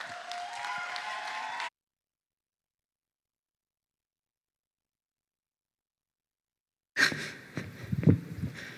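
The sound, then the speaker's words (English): Audience applause welcoming a speaker to the stage, in two short bursts, a steady wash of clapping with some tonal cheering at first, then a long silence before a louder, rougher round of clapping returns. “You guys didn't clap at anything but the fact that I'm a new grandmother.”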